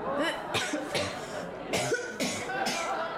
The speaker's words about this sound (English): You all right? It's just this cough. Can't shift it.